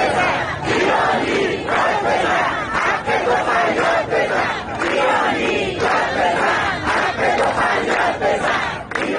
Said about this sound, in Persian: آنها پنج شنبه روبروی استانداری جمع شدند و حق مسلم خود را فریاد زدند. آب، برق، زندگی. بنا به آنچه در شبکه‌های اجتماعی منتشر شده، معترضان تا تاریک شدن هوا در خیابان‌ها ماندند و شعار دادند.